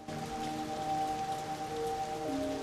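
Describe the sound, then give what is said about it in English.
Torrential rain pours down on a dark night in a steady, dense hiss that never lets up, with a few sustained tones humming underneath and shifting pitch near the end. “As the torrential rain beats down, Beth opens the glass doors and walks out onto the porch.”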